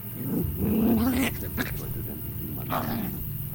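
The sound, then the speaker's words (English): A dog named Bumpy, in a living room, rises, stares up at the ceiling and growls low and rumbling, a long sustained snarl followed by a shorter second growl after a brief pause. “Suddenly, she rose, stared up at the ceiling, and began growling.”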